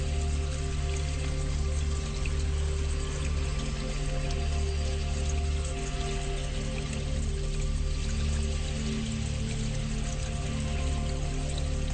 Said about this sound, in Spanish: donde hay una cascada que forma un arroyo, un río. Hay piedras, hay árboles, hay cedros, hay encinos, hay pinos grandes y enormes. Y tú estás sentada, sentado encima de una piedra, disfrutando de ese paisaje, viendo la caída de agua en la montaña.